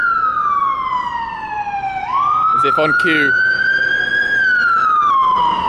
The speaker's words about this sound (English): As if on cue, we have a ambulance going past.